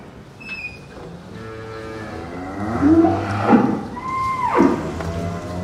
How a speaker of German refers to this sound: Das ist ein neues Geräusch. Die rotierende große Bürste, an der sich die Kühe massieren lassen können.